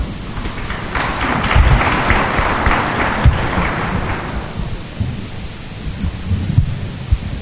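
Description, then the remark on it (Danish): A burst of audience applause, a dense crackling patter of many hands that holds for a few seconds, then dies away into a low rumbling murmur. No clear speech. “jeg vil lige starte med at sige, at du skal nu ikke undskylde for at opbrud med klapsalver, altså i forhold til risikoen for tomater eller andet, så er det absolut foretræk det.”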